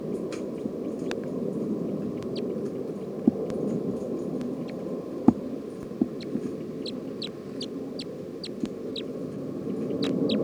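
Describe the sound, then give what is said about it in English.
A bird's chittering call, from recording 311: a series of short, high, thin chirps repeating in irregular bursts over a steady low rumble, with a few sharp clicks scattered throughout. “recording Chitter. 311 here.”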